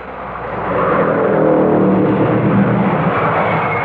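car driving along

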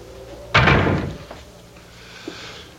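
door being closed

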